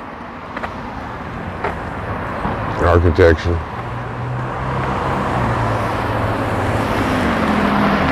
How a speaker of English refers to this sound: A lot of traffic, huh? People have been moving in this city, I guess. It's like a constant flow of cars. You know, who knew? Youngstown. Constant flow of cars.